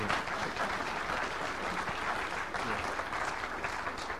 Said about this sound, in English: What I'd like us to do is give him a round of applause for the extra work he does.